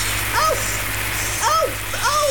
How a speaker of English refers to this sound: Oh, there's so much water! Oh, it's hot! Turn it off!